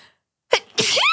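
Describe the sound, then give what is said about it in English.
A single loud sneeze: a quick sharp intake bursts out, then a harsh, breathy blast with a vocal edge. It follows a moment of silence, with no talking. “Bless you.”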